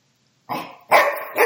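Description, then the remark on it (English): A dog barks loudly, three quick sharp barks in a row after a brief moment of silence, with no one talking. “The dog's barking, so I guess it means we get to hurry up with our picks.”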